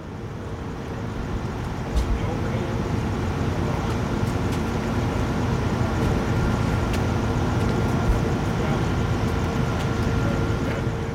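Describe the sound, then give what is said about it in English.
A steady, loud low-pitched engine drone fills the whole recording, a continuous growl from inside a charter bus on the freeway, with faint road rumble from bumps and potholes and occasional small clicks and rattles. “The bus itself is noisy. The constant low growl of the engine is an imposing drone of noise.”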